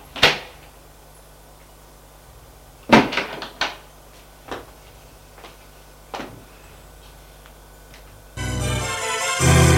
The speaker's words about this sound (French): Au deuxième étage, couloir sombre. Et il ouvre la porte de la chambre.